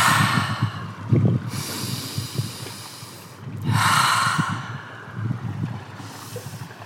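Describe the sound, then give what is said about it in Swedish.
Heavy, deliberate breathing, with about four long, noisy breaths in a slow rhythm over a low rumbling background, as someone breathes calmly while stepping down the slippery, seaweed-covered steps of a jetty into cold water. “Jag brukar försöka andas lugnt när jag går i.”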